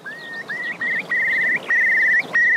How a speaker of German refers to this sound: Und das ist auch ganz besonders an den Elternvögeln, die warnen ihre Küken dann und sagen denen, Achtung, es droht Gefahr. Und das, wie machen die das? Die stoßen so einen ganz besonderen Laut aus.